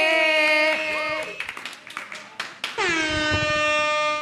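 An audience claps and cheers briefly in Río Piedras as the next performer is introduced, sandwiched between loud, sustained air-horn blasts that open and close the moment, making a noisy, celebratory burst.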